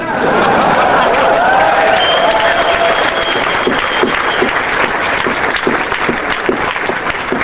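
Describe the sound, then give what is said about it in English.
Sustained applause from an audience fills the whole stretch, a dense, steady wash of many hands clapping at a loud, even level, with some crowd noise and faint voices mixed in. “I see some people not clapping out there.”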